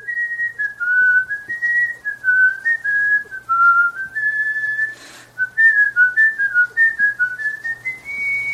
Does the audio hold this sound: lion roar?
no